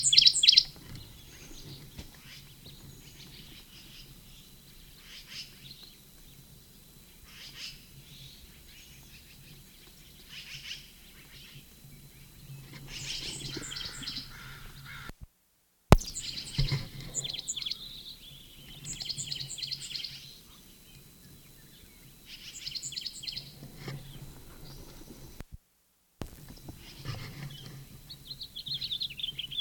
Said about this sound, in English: Sycamore bird at the same nest cavity.